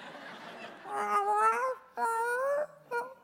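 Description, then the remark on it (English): A cat called Murder Cat meows three times: two long, drawn-out wavering cries followed by a short, quick one, after a brief stretch of soft hiss. “I forgive you, Murder Cat.”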